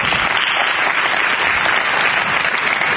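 An audience claps steadily for about three seconds, a dense, even patter of many hands with no one speaking over it.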